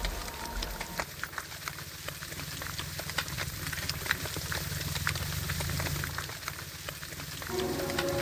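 A dense, continuous crackling of snapping shrimp underwater, countless tiny clicks overlapping like steady rain on a surface, with a low rumble beneath and no voices; a nature recording collected by an artist for a piece.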